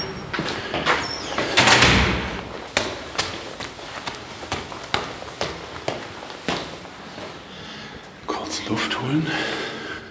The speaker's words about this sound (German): So, Tür auf.